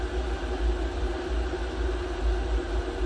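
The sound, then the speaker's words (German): Water boiling for tea in a steady, continuous roar, with a deep low rumble under a broad hiss and faint tonal hum, holding an even loudness for about three seconds with no voices. “Aber das, was du hörst, ist natürlich nicht der Tee, sondern das kochende Wasser.”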